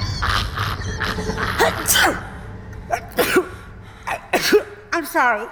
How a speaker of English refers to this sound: I'm sorry. I just, whenever I get nervous, I sneeze. And I know it sounds crazy, but it's a real medical thing. It's called stress-induced rhinitis.